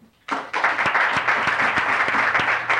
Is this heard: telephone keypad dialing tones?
no